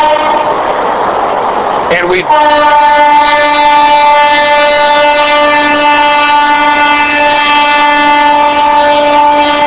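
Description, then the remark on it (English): A train rumbles past on railroad tracks, then sounds a long, steady horn blast that holds loudly for several seconds. A man's voice speaks briefly at the start. “I mean, this close to the railroad tracks, and the trains would be passing by.”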